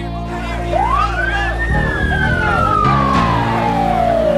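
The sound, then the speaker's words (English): An ambulance siren wails, sweeping up in pitch and then gliding slowly down, over a steady low engine rumble and busy background noise. “He's put in the ambulance.”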